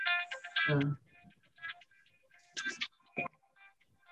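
A phone ringtone plays a bright, melodic electronic tune in a series of short, stuttering bursts of high tones. Nobody speaks over it.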